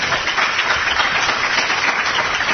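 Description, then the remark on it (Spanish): An audience applauds a speaker after the question session ends, a dense wash of many hands clapping at a fairly even volume throughout, with no voices on top. “un fuerte aplauso primero.”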